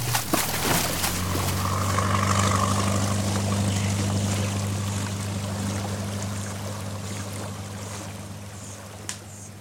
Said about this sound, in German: Gar ins Motorboot!